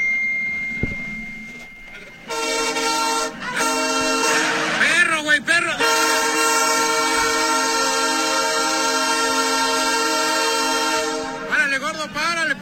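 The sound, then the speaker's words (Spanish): A train locomotive stopping for a dog on the tracks sounds a long, loud, steady horn blast lasting several seconds. Its rich harmonic tone holds unbroken while a man shouts excitedly over it. “Y para la máquina.”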